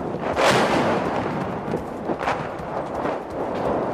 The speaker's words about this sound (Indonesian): Tembakan artileri terdengar di kedua sisi garis depan di Bakhmut, di mana pasukan Rusia memusatkan sebagian besar kekuatan untuk mencoba mendorong ke barat menuju Kramatorsk.